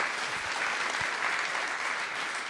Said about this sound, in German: Einen Applaus bitte.